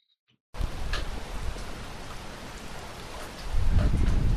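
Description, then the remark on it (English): Steady, heavy rain hisses, and partway through a deep rumble of thunder rolls in and builds beneath the downpour. No one speaks. “When it's a dark and stormy night, most people retreat indoors and warm themselves with a heater or a roaring fire.”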